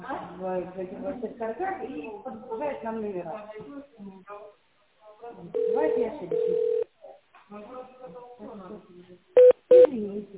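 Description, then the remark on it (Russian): Touch-tone dialing of an internal extension number on a telephone keypad after an engineering company's automated greeting: after a stretch of talking, one long steady dual-tone beep sounds, followed later by two short, sharp keypad tones in quick succession. “Наберите внутренний номер абонента в тоновом режиме и дождитесь ответа оператора.”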